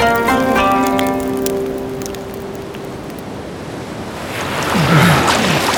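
Ocean surf washes in steadily, a broad hissing roar that softens briefly before another wave swells and crashes ashore near the end. No voices are heard.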